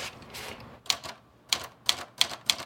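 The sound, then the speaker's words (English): Keys of a refurbished manual typewriter strike in a few sharp clacks at an uneven pace during a standardized test in a typewriter business, after a piece of paper is rolled in, following a brief rough mechanical scraping at the start. No one speaks. “He adeptly rolls a piece of paper into Erica and conducts a standardized test.”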